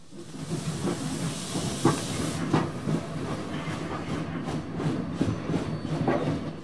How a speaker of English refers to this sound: As the train pulls out of Weirwold, William waves as he glimpses back at Tom, who returns his wave.